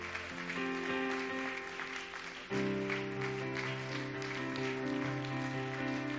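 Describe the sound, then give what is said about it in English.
A church audience claps and applauds steadily for several seconds during a Wednesday night service, giving a hand clap for Jesus, the dense clapping blending with sustained organ or keyboard chords playing underneath, with no one speaking. “How about giving Jesus one more hand clap tonight?”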